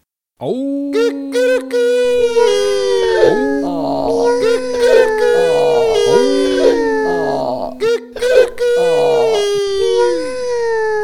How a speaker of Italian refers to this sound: Allora, con gran fragore, si misero d'improvviso a ragliare ed abbaiare, a miagolare, a cantare.